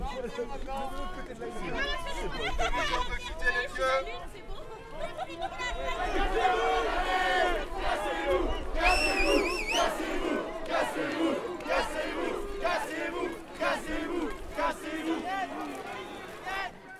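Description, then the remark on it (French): A large protest crowd at an unauthorized rally in Brittany, France, which police declared banned from 9:30 and ordered to disperse, shouts and yells continuously, many voices overlapping in a loud, chaotic roar with sharp cries rising above the din throughout. “À partir de 9h30, le rassemblement est interdit. Nous demandons de vous disperser.”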